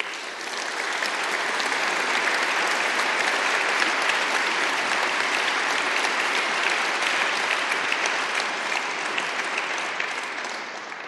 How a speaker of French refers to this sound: Je demande donc aux lauréats de donner l'exemple aux autres. Allez, debout les uns, applaudissons les autres.